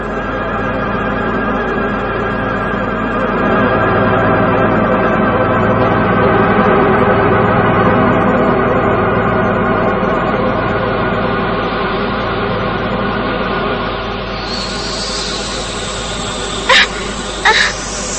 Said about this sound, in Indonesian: Suara desisan ular.